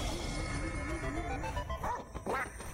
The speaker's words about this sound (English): Oh no, it's the bird and the Nintendo bird. That guy. It's the dog from Duck Hunt.